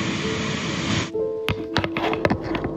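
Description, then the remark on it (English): A dense, steady roar of rushing river water behind some apartments in a small Alaskan town fills the first second, then cuts off abruptly, leaving a quieter background with a faint hum and several sharp knocks and clatters. “In his most recent video, he was filming a river in some small Alaskan town behind some building complex.”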